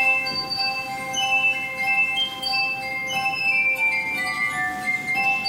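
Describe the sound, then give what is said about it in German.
Sustained, shimmering glass tones ring out in layered, overlapping pitches, with bright high partials that slowly shift and swell, played as ethereal music without any voices in a Harztheater stage production of Der zerbrochne Krug in Quedlinburg. “Eine feine, dank gläserner Musik auch immer sehr durchsichtige Inszenierung ist am Harztheater entstanden”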